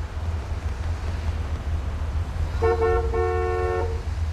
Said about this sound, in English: What are you honking at me for? I'm not the one repaving a road.